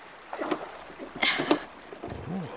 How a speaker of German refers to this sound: Das Boot borge ich nur ganz kurz. Ich will schauen, ob ich Kai vom Wasser aus sehen kann.